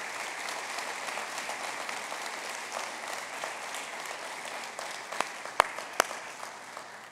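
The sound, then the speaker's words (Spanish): A church audience applauds the worship pastors steadily, a dense wash of many hands clapping at an even level throughout, with a few sharper, louder claps standing out near the end. “Denle un aplauso fuerte a ellos porque se lo merecen.”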